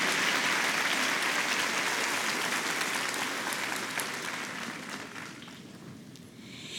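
An audience applauds at the speaker's request with dense, sustained clapping that gradually thins and fades toward the end, with no one speaking over it.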